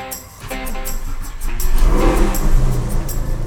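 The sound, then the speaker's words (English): A loud car engine revs on a race track, its roar climbing and swelling over a few seconds with a steady low rumble beneath, heard on its own with no voices. “Lock those brakes.”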